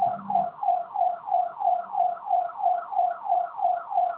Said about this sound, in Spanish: Se activó una de las alarmas de la puerta de atrás. ¿Fue de la puerta? Sí, pero de la parte de atrás, la de clientes, no, de la puerta de atrás.